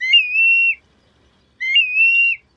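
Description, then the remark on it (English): A black-bellied plover passing overhead gives its whistled flight call twice, each a clear, plaintive, slurred phrase under a second long, separated by a brief silence, loud with no other sounds. “Black-bellied plovers, birds of wide-open tundra and mudflats with no use whatsoever for trees, also passed over, revealed by their undulating, whistled call.”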